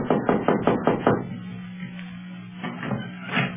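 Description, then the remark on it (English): About six quick, evenly spaced knocks on a room door in a dim hallway ring out, then give way to a quieter stretch with a steady low hum and a few faint shuffling sounds. “I'd hate to knock and have an Arab open the door and start jabbering Arabian at us.”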